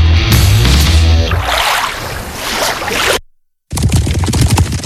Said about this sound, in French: Vous entendez ces chevaux? Ça trotte vite. Ils m'ont l'air bien impatients.